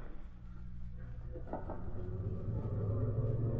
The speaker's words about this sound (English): There go car now from the factory, Mr. Britt. Yes, Cato, that's probably our man, all right. As soon as he passes, we'll follow him.